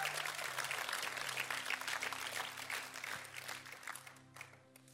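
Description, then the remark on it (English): A crowd of people applauds steadily to welcome a speaker, a dense wash of clapping that holds strong for several seconds before thinning out toward the end, with a low hum beneath. “If you're able to hold money, put money in the bucket and clap at the same time, I invite you to do so.”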